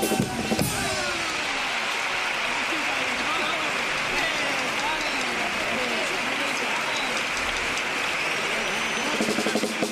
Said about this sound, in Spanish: Bueno, enorme el aplauso del Gran Teatro Fallas ante esta tanda de cupletinas de tres en tres.